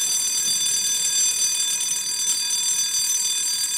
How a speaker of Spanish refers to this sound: Entonces sonó la campana llamando al recreo.